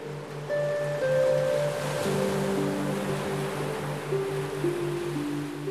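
sea waves

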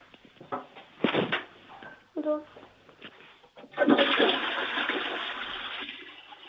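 toilet flush

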